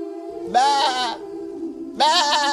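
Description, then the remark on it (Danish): A person bleats like a little goat twice, each a loud, wavering, nasal "baa" lasting about half a second, separated by a short pause with a faint steady hum underneath. “Jo, det er bare mig, der sidder og siger som en lille ged.”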